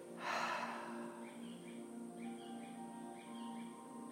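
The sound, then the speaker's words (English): After a breath in through the nose, a breathy, open-mouthed exhale rushes out near the start, emptying the lungs. It is fairly soft, then fades into quiet with a steady low hum and faint chirps in the background. “Breathing in and exhaling with an open mouth.”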